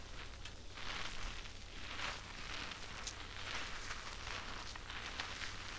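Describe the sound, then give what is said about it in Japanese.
Soft, continuous wet squishing and crackling of shampoo being lathered into hair, a steady bubbly rustle with brighter hissy bursts, no voices. “まずは泡立たせて、”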